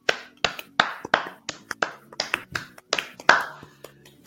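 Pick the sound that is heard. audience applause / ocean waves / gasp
audience applause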